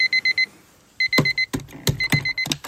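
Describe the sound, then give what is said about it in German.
A digital alarm clock beeps in quick bursts of four high tones, insistent, soon joined by sharp, clattering knocks between the bursts. No voices. “Und vielleicht geht bei Ihnen ja jetzt auch gerade der Wecker zu dieser nicht ganz so schönen frühen Tageszeit an diesem Sonntagmorgen.”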